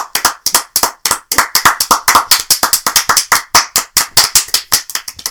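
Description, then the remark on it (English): Hands clap in a quick, steady rhythm, several sharp claps per second that continue loudly for a few seconds with no talking. “I'm gonna edit all those claps now.”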